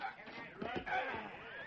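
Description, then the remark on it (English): A horse whinnies over a few heavy hoof thuds as a stagecoach driver brings the horses to a halt on arriving in Frontier Town, the sounds blending into a steady, busy background of mid-level noise. “They stood back while the driver brought the horses to a halt.”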